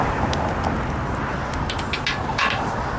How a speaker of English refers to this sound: We're now approaching the intersection. I have now made the intersection. You can hear the traffic's in front of me, going from left to right.